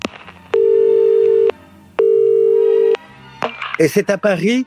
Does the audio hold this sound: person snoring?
no